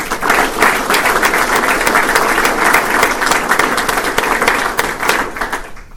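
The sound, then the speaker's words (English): Steady, loud audience applause for Ricky Ellison of the Missile Defense Advocacy Alliance, with dense overlapping claps sustained throughout, tapering off slightly at the very end; no one speaks over it. “Let's give Ricky a round of applause.”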